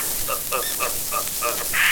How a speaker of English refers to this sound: And the funny little monkey.